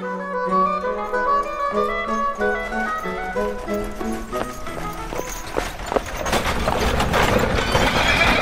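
Horses on the ground floor of the royal stables (Marstall) of the Wittelsbach residence, with hooves clattering and shuffling on a hard floor and the occasional whinny, the hoofbeats growing denser and louder toward the end.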